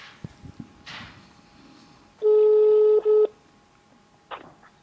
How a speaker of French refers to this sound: je vais t'appeler direct avec mon téléphone. Et comme ça, on va discuter ensemble.